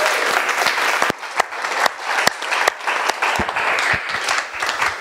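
A room full of people applauds, dense overlapping claps with a few sharper ones standing out, sustained and steady for several seconds with no talking over it.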